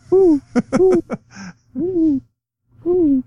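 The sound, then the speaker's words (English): A person imitates an owl, for the Rice Owls in a Stanford Cardinal vs. Rice football game preview, with a rapid burst of short hooting syllables and a breathy puff, then two longer, wavering "hoo" calls separated by brief pauses. “Woo, woo, or something. They're the Owls, right?”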